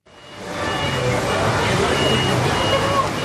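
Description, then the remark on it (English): Busy street ambience at the Suva bus stand in Suva, the capital of Fiji, in the early evening, with a steady wash of traffic and engine rumble, crowd chatter and a faint beeping, continuous and fairly loud throughout. “It's early evening, late afternoon, and I'm standing at the Suva bus stand in the heart of the capital of Fiji, Suva.”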